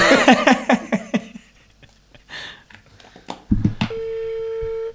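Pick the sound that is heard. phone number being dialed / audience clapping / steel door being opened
phone number being dialed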